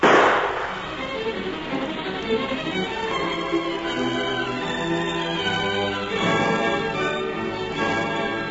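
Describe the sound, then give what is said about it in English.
A single sharp gunshot cracks out at the very start, then gives way to sustained, swelling orchestral music that carries on steadily to the end. No one speaks. “No telling who'll hear the shot and come running.”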